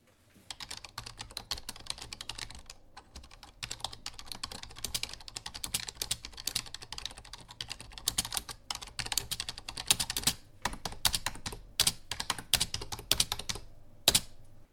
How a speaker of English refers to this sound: First, I have to set the parameters on my wireless keyboard, like so.